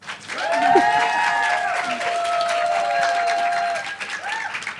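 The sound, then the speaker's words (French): An evening show audience applauds a guest being introduced, a dense wash of clapping mixed with sustained cheering voices for a few seconds, holding an even loudness before tapering slightly at the end. “Alors, commencez pas à applaudir, si ça se trouve, ça va pas du tout coller, je vais dire que des bêtises.”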